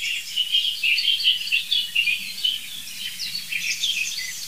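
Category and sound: bird, song thrush singing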